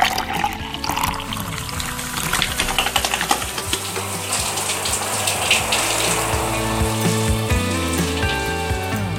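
Water runs and pours steadily for several seconds, a continuous splashing hiss with shifting gurgles and faint clinks, and no one speaking, as someone waters chickens early in the morning.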